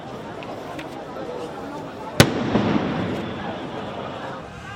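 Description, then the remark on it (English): A single sharp blast from a small handheld electronic device cracks out over a murmuring outdoor crowd at a funeral in Beirut, Lebanon, followed by a brief swell of agitated voices and movement. “The explosions were heard at a funeral in Beirut for Hezbollah members killed in Tuesday's attack.”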